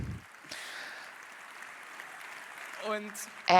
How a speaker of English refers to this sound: Laughing and applause.